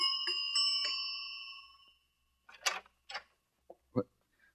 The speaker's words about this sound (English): The next morning, a pneumatic young girl, crisply clad in a beta minus viscose linen suit, stood outside the door of the savage's apartment and somewhat nervously rang the buzzer.